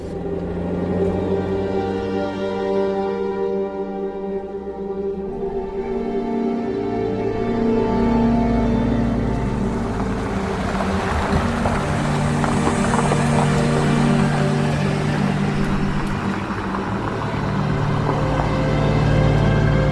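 A steady vehicle rumble with a low engine drone and road noise runs without a break, loud, from a car traveling down Tifton Highway en route to Pleasure Lake. No one speaks.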